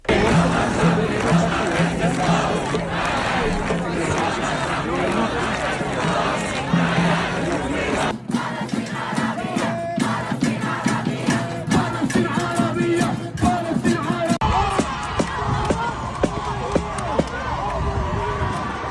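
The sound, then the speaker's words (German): A dense crowd at a university protest camp occupation in the US, with original sound from Massachusetts, New York and Harvard, clamors continuously, many voices shouting and chanting together with overlapping chatter; sharp bursts, including police shots, and raised cries punctuate the steady, loud roar throughout. “Und wir hören jetzt gleich mal kurz rein, in eine, so wie es so tönt, an einer dieser Besetzungen.”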